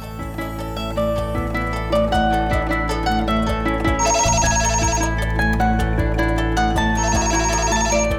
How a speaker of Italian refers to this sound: Squillò il telefono di casa.